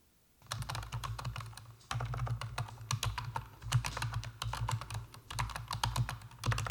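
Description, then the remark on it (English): Steady typing on a mechanical keyboard, a dense run of sharp clacky keystrokes with a low thocky undertone, briefly pausing around two seconds before resuming. No one speaks. “If you're going to be on this for a really long time on a game, yes, you might want to get another a keyboard, but I think if you're just starting out, this is a really good keyboard for you. Let's play that sound again.”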